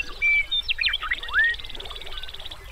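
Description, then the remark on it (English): Several quick, bright bird whistles and chirps rise and fall over about a second, then fade, leaving a soft, steady rush of a meandering river flowing through the grasslands of Grasslands National Park, Canada. “As the river meanders, it blends its music with that of the birds.”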